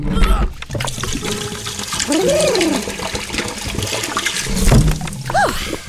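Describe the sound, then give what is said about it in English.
A couple of gallons of liquid pour in a loud, steady gush that runs for several seconds, with a few rising and falling gurgles partway through and near the end. “And now, for the secret ingredient, a couple of gallons of the old burp water.”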